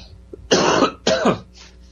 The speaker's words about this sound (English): Excuse me, I've got a bit of a cough today.